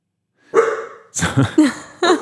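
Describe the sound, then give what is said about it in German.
A dog that has just been woken barks loudly, four sharp barks in quick succession, the first one longer and drawn out, with no talking in between. “Wer hat denn jetzt den Hund geweckt?”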